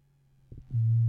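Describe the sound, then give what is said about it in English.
A couple of soft clicks, then a handheld vibrator switches on into a loud, steady, low-pitched electric buzz that holds evenly until the end, with no talking. “Girl, and it vibrates.”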